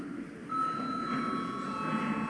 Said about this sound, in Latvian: Lūdzu zvanu.